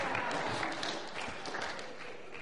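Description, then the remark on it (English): An audience claps steadily throughout, a dense, even wash of many hands that holds at a moderate level the whole time without building or fading. “You didn't applaud for mine.”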